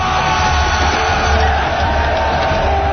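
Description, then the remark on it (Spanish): A large crowd of Madrid residents shouts and clamors continuously in a revolt in the streets of Madrid, trying to stop the infante Francisco de Paula being taken away; a dense roar of many overlapping yells and bellows, loud and sustained throughout with no single voice standing out. “Los gritos, el clamoreo, llega a las cercanías donde estaba instalado, perfectamente instalado, Joaquín Murat.”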